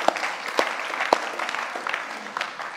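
An audience applauds the event's technician, a dense wash of many hands clapping with a few sharper, louder claps standing out, sustained at a moderate level without any talking.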